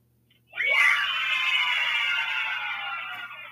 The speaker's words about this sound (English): Oh, yeah, that's what we like to hear is cheers for Duke losing.